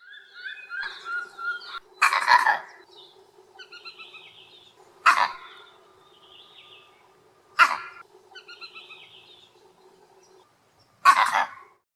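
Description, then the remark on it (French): A vervet monkey's eagle alarm call: four loud, harsh barking bursts spaced a few seconds apart, standing out against softer birdsong and chirping in the background. “Quand ça vient d'en haut, par exemple d'un aigle, bim, il fait un cri spécifique.”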